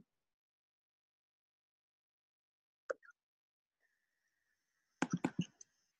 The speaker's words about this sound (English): you're not muted. I hear you're typing or something.